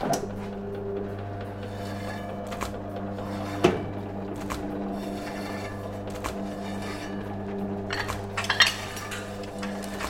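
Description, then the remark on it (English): A knife works through meat on a board, slicing it into seven pieces, with a few sharp knocks and light clinks over a steady low appliance hum; no one speaks. “I'm gonna slice some meat here.”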